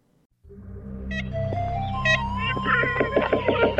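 Ivory-billed woodpecker, the largest woodpecker native to North America, calls: a few nasal, horn-like toots over a steady low hum, growing into a busier run of repeated notes toward the end, moderately loud.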